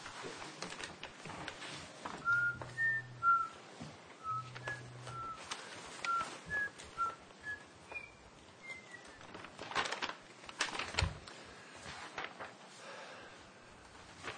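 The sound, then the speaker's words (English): A whistled game-show countdown tune: a string of short, thin notes in a bouncy stepwise melody, fairly quiet, with scattered clicks and a brief low hum underneath, no talking. “I was looking for the Jeopardy time clock keeper. I could whistle that one.”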